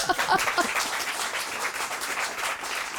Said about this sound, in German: Dann ist das Ihr Applaus.